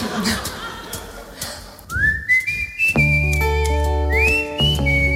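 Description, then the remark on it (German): A clear, melodic human whistling solo, the first of a live concert in a hall, rises and glides between sustained notes, entering after a couple of seconds of hall ambience and soon joined by steady instrumental accompaniment. “Das Spiel mit dem Publikum, die Freude, endlich wieder spielen zu können, das Knistern im Saal vor dem ersten Pfeif-Solo.”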